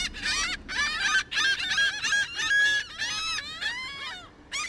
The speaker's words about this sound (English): Not to mention, while driving a car, you can't just relax and tune in to the birds all around you.